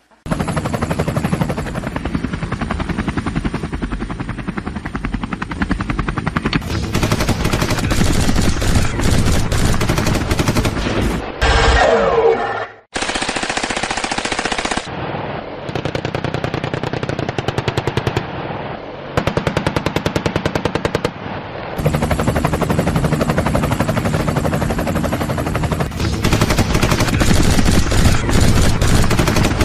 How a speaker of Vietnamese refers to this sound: Trực thăng võ trang bay bao vùng ở cao độ thấp và nhả đạn vào những tấm bia thịt ngu xuẩn đang đi cuồng như những con thiêu thân lao mình vào ngọn lửa.